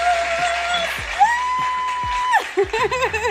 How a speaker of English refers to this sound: I got to give you a round of applause. Hold on. Where is the round of applause?